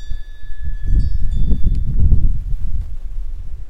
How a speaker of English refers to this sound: And I'm standing in my shelter of my porch. Can you hear the snow blowing against me?